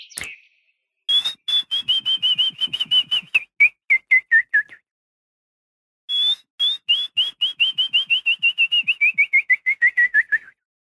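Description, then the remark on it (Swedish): A person whistles an imitation of willow warbler song: two clear phrases of quick, sweet notes gently descending in pitch and softening at the end, with a short pause between them. “Ungefär så här om jag skulle försöka mig på att vissla lövsångaren då.”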